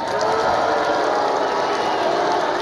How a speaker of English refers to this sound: Alex Rodriguez, was announced and booed at the plate for the Yankees exhibition season opener. Alex Rodriguez.